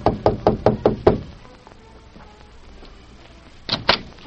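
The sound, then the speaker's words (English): The Lone Ranger and Tonto knock on Lolita's hotel room door in the town of Flat Rock: six quick, sharp raps in a steady rhythm, a few seconds of near silence, then two more firm knocks. No one speaks. “A few minutes later, they knocked at her door.”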